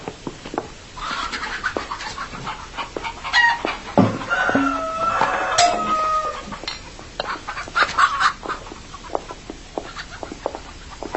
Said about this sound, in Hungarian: Istenkém, micsoda baromfi udvart tartanak? Nem kedvelem a tyúkokat. Ezeknek a többsége kakas. Vágó baromfik? Számunkra hasznosak.